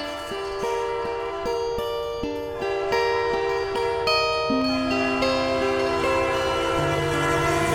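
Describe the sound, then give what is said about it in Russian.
A train rolls by loud, its horn sounding in long, overlapping multi-tone blasts that shift pitch, with a steady rumble and faint rhythmic clatter underneath throughout. “Поезд, и у меня есть маршрут.”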